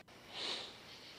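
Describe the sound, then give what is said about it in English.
One soft, airy sniffle through the nose, rising and fading over about half a second, quiet, with no voices around it. “That was me sniffling, sorry.”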